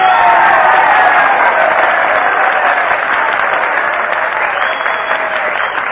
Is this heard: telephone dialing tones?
no